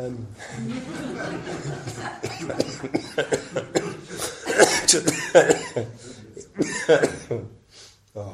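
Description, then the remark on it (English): A run of sharp coughs bursts out in uneven clusters, getting louder toward the middle and end, with some muffled throat noises and faint voice sounds between them. “Actually, coughing is an interesting thing.”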